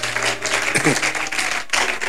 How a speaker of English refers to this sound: Oh, clap your hands.